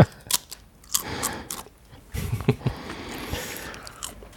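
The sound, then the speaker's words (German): Crisp crunching as someone bites into and chews crunchy Christmas cookies from a table, with irregular bursts of loud crackling bites spread over a few seconds and no talking. “Aber wir haben hier knusper Plätzchen auf dem Tisch.”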